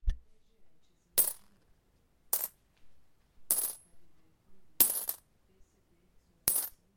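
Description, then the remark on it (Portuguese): Coins clink and drop in five bright, separate metallic bursts spaced about a second apart, clear with quiet pauses between, and no voices. “Com as moedas que poupei, posso comprar o que sempre quis.”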